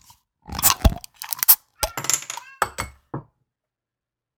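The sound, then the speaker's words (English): A Keller-style beer (5.5% ABV, 19 IBUs) being cracked open: a quick series of sharp metallic clicks, clinks and crunchy rattles in irregular bursts over a few seconds, fairly loud, with no one talking. “Let's crack it.”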